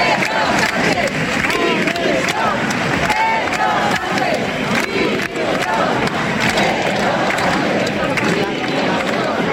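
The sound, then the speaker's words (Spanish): A large protest crowd chants and shouts together, a loud, dense wall of many voices that holds steady for the whole stretch with no pauses. “Estos eran algunos de los cánticos que se escuchaban.”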